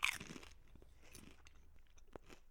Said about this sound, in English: Yeah, the crunch is good, but it is as expected from a hand-cooked crisp. We have reviewed Tyrell's before. We have reviewed Kettle Crisps before, which is also a hand-cooked crisp. The crunch is similar. It's a good crunch, but